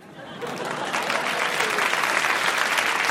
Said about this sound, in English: And the applause there tells you Carr had scored. His side won that night. It was a great moment.